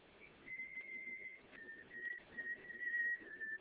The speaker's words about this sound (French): Il entre. Il se déshabille, allant des cabinets de toilette à la chambre, en sifflotant.